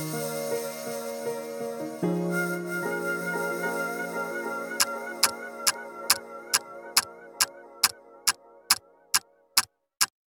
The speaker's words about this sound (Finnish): Jos me oltais katastrofielokuvassa, me oltais siinä kohdassa, jossa aikakello tikittää kohti pommin räjähtämistä ja sankari kamppailee pelastaakseen ihmiskunnan täpärästi lopulliselta tuholta.